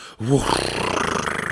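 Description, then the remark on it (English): A sudden voiced gasp breaks a moment of silence, rising sharply in pitch, then trails into a long, breathy rush of air. It is fairly loud, with no words spoken. “Tonight, … gasped.”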